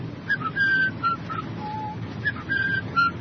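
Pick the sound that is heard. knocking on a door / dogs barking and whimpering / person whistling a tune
person whistling a tune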